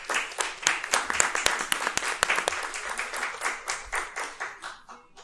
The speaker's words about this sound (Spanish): Pues pido un fuerte aplauso, por favor.